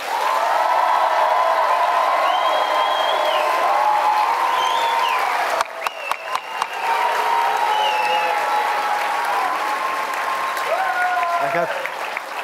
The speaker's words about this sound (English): First, we will hear, in purely applause terms, we will hear from the dog side and then the cat side. And if I need to hear it again, you'll do it again. So, the dog side, who votes in favor of the dogs?